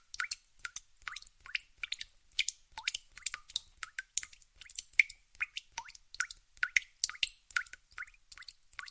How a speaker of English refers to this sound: The tap drips into my mind.